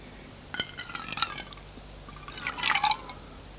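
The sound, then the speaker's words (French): Glass clinks lightly a few times, then liqueur gurgles from a bottle into a glass for a moment, the pitch rising as it fills. The sounds are soft, with no talking. “» Il va à la commode prendre une bouteille et un verre.”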